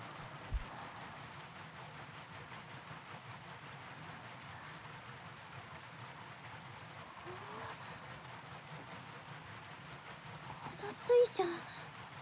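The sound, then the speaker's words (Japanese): A water wheel turning, its small buckets splashing in a quick, steady rhythm that blends into a continuous hiss, with a brief louder burst of splashing near the end. “でもって水を受けるマスの一つ一つも小さいから、ちょっとずつの水が水面に当たる音”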